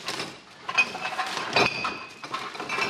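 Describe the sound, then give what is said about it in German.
Glass and PET bottles, empty mayonnaise tubes and beer cans clatter and tumble out of recycling sacks bearing the green Mr. Green logo in a dense, continuous jumble of knocks and bright clinks, with a few ringing glassy tones standing out over the rattling. “Glas- und PET-Flaschen, leere Mayonnaise-Tuben und Bierbüchse rugeln aus den Abfallsäcken mit dem grünen Mr.”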